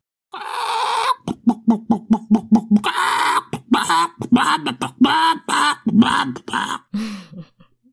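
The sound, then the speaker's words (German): A rooster crows loudly, followed by a quick run of clucking pulses and more squawking calls, with no talking. “Dann gibt's hier den Gockel der Woche.”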